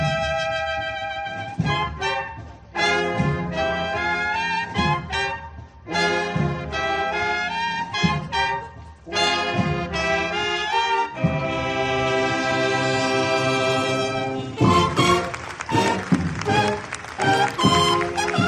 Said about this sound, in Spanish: Mientras sonaban estas cornetas que escuchas de la cofradía, recibidas por los aplausos de las cerca de 400 personas que se reunían paraguas en mano en la plaza del mercado y en la calle Portales.